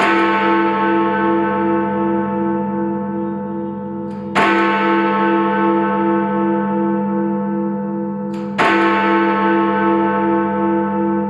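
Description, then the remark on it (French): Big Ben, a huge 13.5-tonne bell in a clock tower, tolls three times at slow, even intervals, each strike ringing out with a long, shimmering hum that barely fades before the next. No voices. “Big Ben, c'est le nom de la cloche en référence à l'architecte qui a ordonné sa fonte.”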